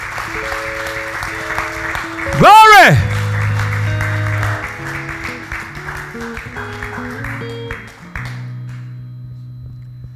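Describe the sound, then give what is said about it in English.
A large crowd claps and applauds steadily for several seconds over sustained organ chords, with a voice briefly calling out early on; the clapping thins and fades near the end. “Come on and clap the victory right now. Clap the victory.”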